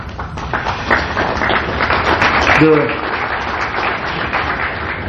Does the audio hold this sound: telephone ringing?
no